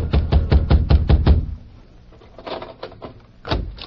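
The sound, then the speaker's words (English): Rapid, heavy pounding on Grabber Garson's door, waking him, about seven hard blows in a quick run, followed by a pause and a few more scattered, lighter knocks and thumps. “A few minutes later, Grabber Garson was wakened by a pounding on his door.”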